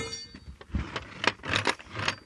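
A door leading out to a front garden being opened: a quick series of metallic jingles and clicks, like keys and a latch, followed by soft rattling and thumps. No one speaks.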